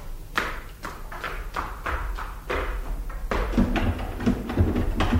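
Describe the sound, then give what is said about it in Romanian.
Someone tries a locked door: a rapid series of sharp knocks and rattling thuds as the door is jerked repeatedly without opening, growing slightly louder toward the end, with no talking. “Ce este asta? Ușa e încuiată.”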